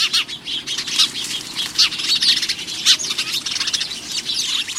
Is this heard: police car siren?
no